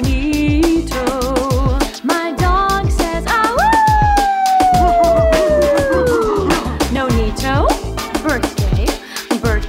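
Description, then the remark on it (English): A dog lets out a long, wavering howl that slides slowly downward over a few seconds, loud, set against a busy, clattering backdrop with people's voices at a birthday celebration. “My dog says, do you?”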